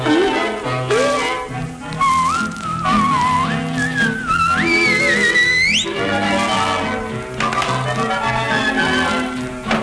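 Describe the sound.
A bright whistled melody glides up and down in sliding, rising phrases, carried over a full orchestral accompaniment that continues steadily throughout.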